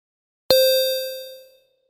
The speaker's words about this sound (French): Et bien sûr, si vous y êtes à 12h30, alors là, c'est le grand manège. Toutes les portes qui s'ouvrent, les clochettes qui sonnent, c'est formidable. Ça, je vous le dis, ça vaudrait la peine d'être vu.